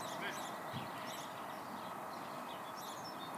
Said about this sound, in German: Und dann sind dir vielleicht auch die Vögel aufgefallen. Vielleicht vorhin, als wir gesprochen haben, uns gegenseitig angeschaut haben, hast du die gar nicht gemerkt.